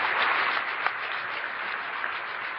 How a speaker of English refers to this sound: So I think everyone should give a round of applause for these two groups or three groups coming together.